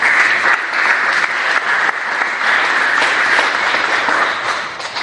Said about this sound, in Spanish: Aleluya. Denle aplausos al Señor.